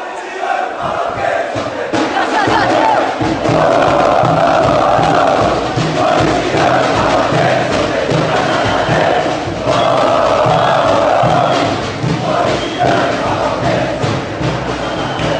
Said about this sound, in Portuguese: Conhecida por ser fielmente apaixonada pelo clube, a torcida corintiana inova a cada ano os seus gritos de incentivo, e neles mostram a identidade característica dos seus torcedores, assim titulada por eles.